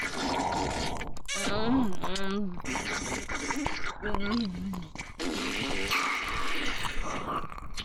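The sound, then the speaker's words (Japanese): A steady hiss of shower water runs throughout, continuous, with wordless voiced moans and groans rising over it at intervals; someone is in the shower. “早くしないと、主人がシャワーから出てくるから。”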